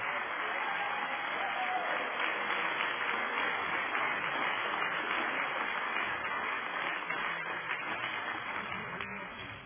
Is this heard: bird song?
no